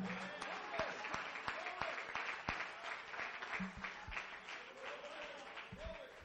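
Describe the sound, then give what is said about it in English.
An audience claps steadily and enthusiastically in praise of God, a dense patter of many hands with some sharper individual claps, while voices call out underneath throughout. “Clap your hands, give him praise.”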